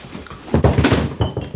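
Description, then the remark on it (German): Objects are shuffled and set down in a quick series of soft thumps and clatter as a chair is cleared; no voices. “Ich mache Ihnen den Stuhl frei.”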